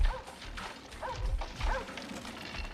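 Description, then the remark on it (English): A small dog yips and barks in three short, high bursts about a second apart, over a low rumbling background noise. “What's up, little man? Shh. Loke Dog.”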